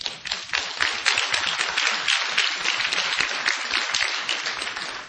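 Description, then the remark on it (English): Sustained audience applause at a book event as the co-author stands up, a dense crackle of many hands clapping steadily for about five seconds at a fairly even, lively volume, with no voices standing out. “I'm a little concerned that he got more applause than I did.”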